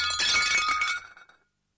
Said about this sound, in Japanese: 出勤前の午前8時、妻がお皿を割った。